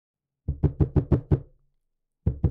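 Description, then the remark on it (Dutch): Loud knocking on a door: a rapid run of six firm raps, a brief pause, then two more knocks, sharp with no voices. “Maar net toen Gerrit-Jan dacht zich klaar te kunnen maken voor bed, wordt zijn rust verstoord door een luid geklop op de deur.”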